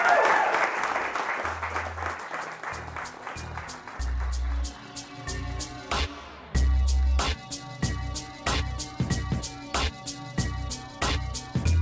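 An audience's round of applause for a guest who has just shared his story fills the first few seconds, then fades as music with a steady drumbeat and deep bass notes takes over and plays on alone.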